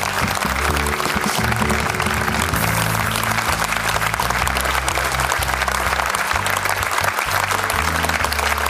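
crowd, studio audience applause

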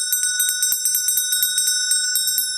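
signal or alarm, small bell ringing

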